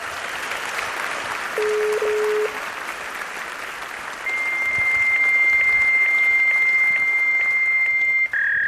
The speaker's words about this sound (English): Please give a warm round of applause to those two guys.